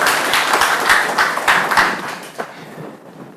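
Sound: audience applause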